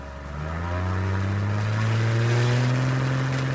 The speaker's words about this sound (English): The tiny two-seater accelerates so quickly